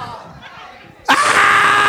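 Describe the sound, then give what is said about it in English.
After a second of quiet murmur, a person suddenly lets out a loud, sustained high-pitched scream that continues at full strength until the end. “whoever did Bloody Mary, you go in the bathroom, say Bloody Mary 5 times, and you throw the water on a window and just scream.”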